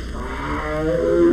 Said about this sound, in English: The Sumatran tiger calls.